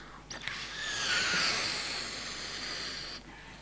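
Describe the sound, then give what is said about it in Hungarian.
A balloon, fitted airtight over the top of a sport-cap bottle glued onto a CD, is inflated from behind the CD to make an air cushion the CD slides on. A steady, airy hiss of rushing air swells in the first second and holds for about three seconds before cutting off. No one speaks. “És most egy kicsit elbújok a CD mögé, hogy felfújhassam a lufit.”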